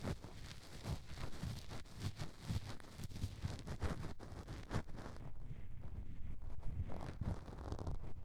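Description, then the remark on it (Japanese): Gritty, rough scratching across a cork surface, a continuous grinding rasp broken into rapid irregular strokes, fairly loud throughout with no one speaking. “なんだかんだ試した結果、コルクを引っかく音にたどり着きました。”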